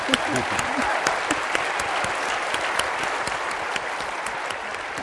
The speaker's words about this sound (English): Well, I think that a marathon feat like that deserves another round of applause.